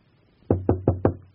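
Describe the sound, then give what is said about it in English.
Four firm knocks on a door in a quick, even rhythm, fairly loud, with a hollow thud to each rap and nothing else around them. “I'll knock.”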